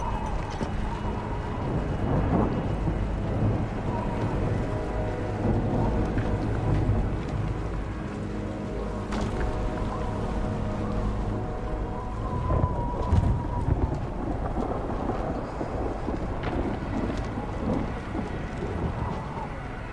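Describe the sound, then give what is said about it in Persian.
A thunderstorm roars steadily with heavy rain and wind, deep rumbling thunder rolling underneath and a couple of sharp cracks cutting through, loud throughout. “زودی توفان به همون میرسه. همین که توفان تموم بشه سمت کشتی استینگز میریم.”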